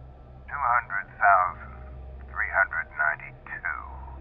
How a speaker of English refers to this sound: it held my attention to the point I almost didn't hear the faint static sound coming from behind me. Almost.